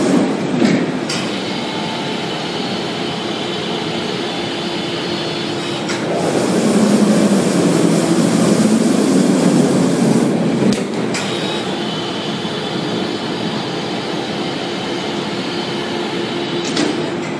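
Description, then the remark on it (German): Crematorium machinery in Dachsenhausen runs with a steady, heavy mechanical rumble as a coffin on a lift platform is slowly raised and the furnace opens for the handover of the coffin, with metallic clunks and a louder roaring surge midway. No one speaks. “Ein Sarg steht wie auf einer Art Hebebühne, die jetzt langsam hochgefahren wird und wir dürfen tatsächlich an der Übergabe eines Sarges teilnehmen.”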